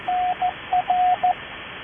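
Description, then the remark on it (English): A CW station checks in to a radio net in Morse code: a steady tone keyed in crisp dashes and dots over a faint radio hiss, five elements in a quick uneven rhythm, clear, with no voices. “Who is the CW station?”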